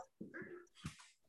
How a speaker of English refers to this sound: Now my dog's going crazy. She heard a dog barking. She's okay. Running around in circles now.